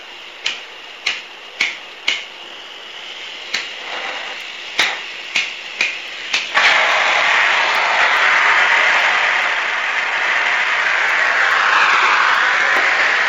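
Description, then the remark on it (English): A blowtorch igniter clicks about nine times in an uneven rhythm, then the flame catches and settles into a loud, steady, hissing roar that carries on to the end, as the torch is used to heat one end of a pipe to form a bell-shaped end over a bottle. No one speaks. “So lighting up torch land here.”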